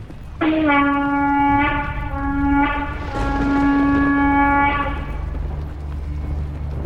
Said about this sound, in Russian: На другой же стороне Господь Кришна и Арджуна, стоявшие на великолепной колеснице, запряженной белыми лошадьми, затрубили в свои божественные раковины.